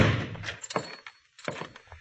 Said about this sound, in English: If you want in, just shove the door.